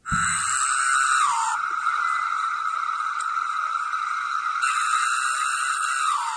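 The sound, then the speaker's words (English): A cicada sings a loud, unbroken, high-pitched electric whine for about six seconds, brighter and buzzier at the start and again near the end, with no voices over it. “apparently the cicadas sing in a chorus to attract females, and they also sing to ward off birds”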